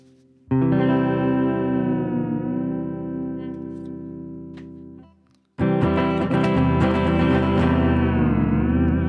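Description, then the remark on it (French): A yellow headless electric guitar, played live in the France Inter studio, rings out a long, thick chord with an effects-laden tone that slowly fades. After a brief pause a brighter, louder chord is struck and sustains. No voices. “il se dirige vers le petit coin du studio où l'attend sa guitare électrique jaune et sans tête, cette guitare, on en parlera après.”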